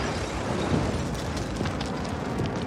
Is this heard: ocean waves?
no